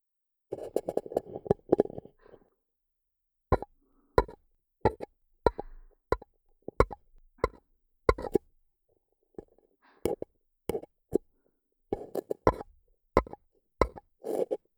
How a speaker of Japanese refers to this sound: お耳にコップ失礼します。はい、両耳を紙コップで覆いました。さて、紙コップの上から叩く音に溺れていこう。